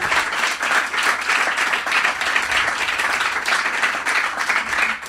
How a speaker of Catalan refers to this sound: Molt bé, un aplaudiment